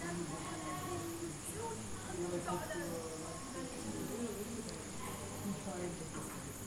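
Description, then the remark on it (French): Crickets chirp in a steady, high-pitched trill that runs unbroken throughout in Auroville, with faint voices murmuring indistinctly in the background. “Ah oui, il y a des grillons aussi.”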